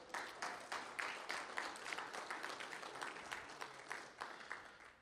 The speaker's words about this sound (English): And while you guys are clapping at him, let me find the verse here and make sure I have the Greek.